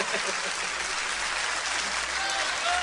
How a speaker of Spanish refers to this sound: En la producción, este aplauso es para él. De él para él.